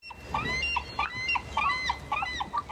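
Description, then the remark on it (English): Several bald eagles in Haines, home to the world's largest audience of bald eagles, call in a busy, overlapping series of high, squealing chirps, about ten in under three seconds, over a steady low rumble. “Haines, which boasts the largest congregation of bald eagles in the world.”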